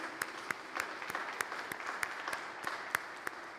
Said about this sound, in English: Let's give all those wonderful singers another applause.